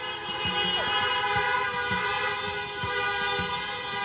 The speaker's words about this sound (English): A lot of honking, as you've heard, all across the city for the past 2 hours since the race was called in favor of Biden-Harris.